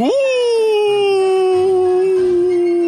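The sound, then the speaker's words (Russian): A person imitates a wolf's howl with one long, sustained voiced note that rises sharply at the start, then holds steady and slowly falls, loud with no other sounds. “Волк как завыл.”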